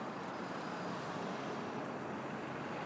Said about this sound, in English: Well, traffic's heavy.